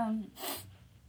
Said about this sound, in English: Sorry, I'm yawning.